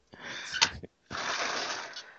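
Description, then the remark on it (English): A door opens and closes as the dog Harley goes in and out. There is a short rattling burst with a couple of sharp clicks, a brief pause, then a longer, steady scraping whoosh. No one speaks. “There's the door noise.”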